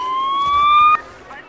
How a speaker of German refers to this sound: Cooler Klingelton.